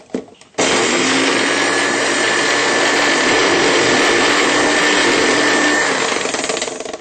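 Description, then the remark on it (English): A food processor blends guacamole until smooth, kicking on abruptly into a loud, steady whirring roar with a thin motor whine, running for about six seconds before easing off slightly at the end. “Process for another few seconds until it's really smooth.”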